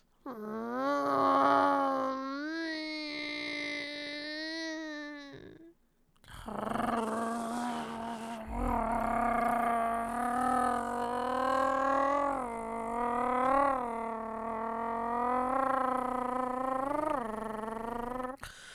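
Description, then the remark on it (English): A voice imitates a revving car engine, loud and buzzing: a five-second rev, a brief pause, then a longer sustained drone with wavering pitch bumps. “I'm a fucking car.”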